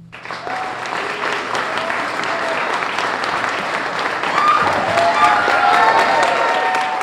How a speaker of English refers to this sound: Sounds like a very supportive audience. It sure does, although I must point out that the cheering started when we stood up to bow. A cynic might argue the crowd just realized we would not be playing anymore, and that's what the cheers were about.